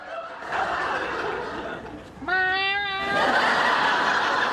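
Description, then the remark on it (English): A man's voice, as Sheldon in The Big Bang Theory, gives a single drawn-out imitation of a cat's meow, rising then holding, set between stretches of noisy, laughter-like background sound. “It hops when Sheldon meows.”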